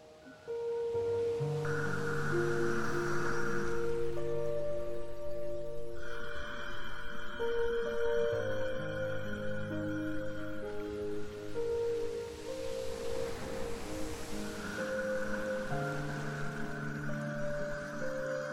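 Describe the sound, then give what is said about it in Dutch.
Ocean waves swell and recede in slow, broad washes, blended beneath sustained, steady musical tones that hold throughout; no one speaks. “Je kan dit zeegeluid zelf ook maken door tijdens het in- en uitademen je stembanden een beetje te knijpen.”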